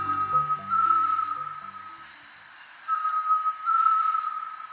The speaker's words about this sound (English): This eerie sound can be heard in the lowland jungle throughout much of Central and South America. It's the voice of a great tinamou. Secretive and almost impossible to see, great tinamous call early and late in the day